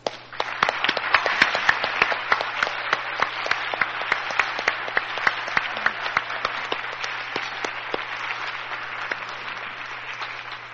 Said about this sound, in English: Could I have the committee members please stand so we could give them a round of applause?